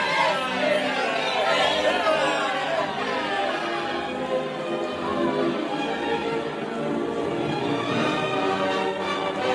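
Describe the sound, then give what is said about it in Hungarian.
A large crowd cheers and clamors for a beggar boy taken for the king of England, many voices overlapping in a dense, steady roar that stays loud for the whole stretch, with no single voice standing out. “Míg álmulva éljenezték az egybegyűltek a királynak hit koldusfiút”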